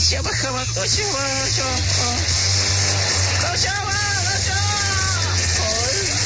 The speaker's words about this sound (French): Ça y est, il est parti avec sa trottinette à moteur.